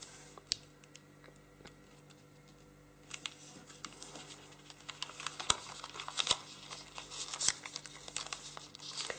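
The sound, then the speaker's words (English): Quiet paper handling: crisp crinkles and small sharp snaps as a sheet is pressed, creased and folded to make the head of a paper bear, a bottom corner aligned with a crease line and folded inside. The sounds come in irregular bursts that grow busier toward the end, with no voices. “First, we're going to take this bottom corner or this edge and align it with the crease line in the top, the edge, crease, and then fold inside.”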